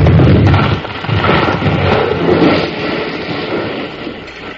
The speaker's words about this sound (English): Well, you sure were smart to figure on setting that big beam to fall right over the door, Colorado.